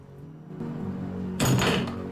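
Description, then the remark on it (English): A front door is opened: a low rumble and thunk, then a burst of broad, hissy rustle lasting under a second as it swings, with no voices. “She opens the front door.”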